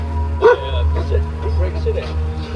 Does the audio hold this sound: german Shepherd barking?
yes